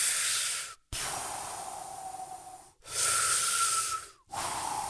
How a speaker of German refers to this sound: So, aber da atmen wir jetzt alle erstmal schön durch.